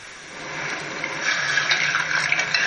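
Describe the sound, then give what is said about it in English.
Boiling pineapple juice and water pours steadily into a bowl of black cherry gelatin, a continuous splashing gush that grows fuller and louder partway through, with no talking. “So we're going to add that to the gelatin.”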